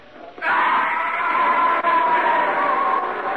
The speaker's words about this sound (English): bringing up the rear when I heard him yell.